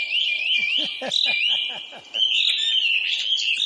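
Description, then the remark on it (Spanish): A dense chorus of small birds chirping and twittering continuously while being fed at a ranch, with a quick series of lower, rhythmic chirps in the first two seconds. “es que le estoy dando de comer a los pajaritos aquí en el rancho.”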